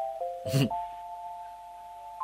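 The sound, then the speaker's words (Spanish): A telephone rings with a steady mid-pitched electronic tone that holds for about two seconds, briefly interrupted early by a short, loud burst of noise. No one speaks. “Suena el teléfono, tenés que trabajar.”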